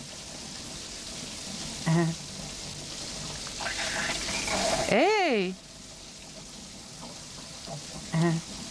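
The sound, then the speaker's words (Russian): Steady hiss of running shower water fills the whole stretch, with a few short voiced bursts and one loud rising-and-falling shout of a word partway through. “Душ — это чудесно.”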